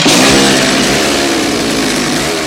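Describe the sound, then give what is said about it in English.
A chainsaw brandished by a white-haired man revs loudly, a steady buzzing roar with a rough droning pitch that holds for a couple of seconds, with no voices. “The white-haired man brandishes a chainsaw.”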